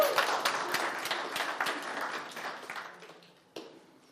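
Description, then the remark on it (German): An audience applauds skit number one with dense, steady clapping that gradually fades over about four seconds, ending with a last few scattered claps. “Kleines Applaus bitte für Anspiel Nummer 1.”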